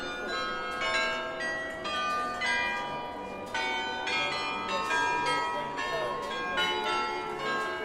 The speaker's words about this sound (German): Dem Rathaus gegenüber der schlanke Turm der New Kirk, der neuen Kirche mit Glockenspiel.